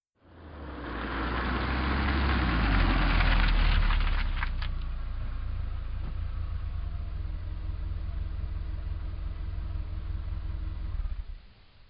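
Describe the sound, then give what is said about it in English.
A car engine rumbles steadily as the car is being parked at Gull Cottage in Schooner Bay, revving briefly early on before settling into a low, even idle that runs for several seconds and then cuts off. “we revisit Gull Cottage in Schooner Bay, as Tony and Carolyn are parking the car.”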